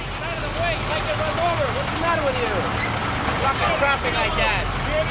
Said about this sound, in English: It's 5 a.m., and it's still dark out here at the San Francisco Wholesale Produce Market. There's a stampede of trucks and forklifts carrying loads of fresh fruits and vegetables to and from the warehouses.